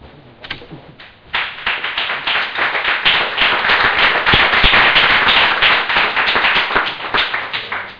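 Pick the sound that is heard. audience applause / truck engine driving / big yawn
audience applause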